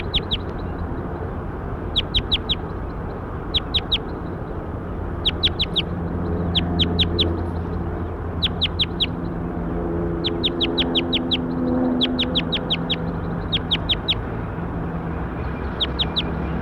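Bird calls: sharp, high chirps arriving in quick clusters of two to five, repeating irregularly over a steady low rumbling background, with no talking.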